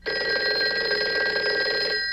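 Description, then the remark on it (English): A telephone hidden inside a clock rings loudly and steadily for about two seconds, a rapid trilling jangle with no voices over it, cutting off abruptly at the end. “why don't you just call down and ask the fellas in internal security where the phone is?”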